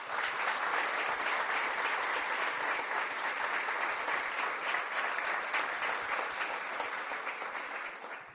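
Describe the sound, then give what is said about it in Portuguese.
A crowd claps steadily and loudly for several seconds to honour the women present on Women's Day, March 8. A dense wash of overlapping hand claps stays even throughout and tapers slightly at the end. “Então essas mulheres, Dia da Mulher, dia 8 de março, eu quero aplaudir a todas essas mulheres de forças que estão aqui. Vamos aplaudir a todas?”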